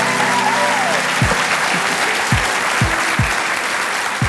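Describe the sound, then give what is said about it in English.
A large audience at the Margaret River Readers and Writers Festival applauds author Susan Choi steadily, the dense clapping at a consistent loudness, with a few low thumps and a faint tonal murmur at the start. “Can you please give an enormous round of applause for Susan Choi?”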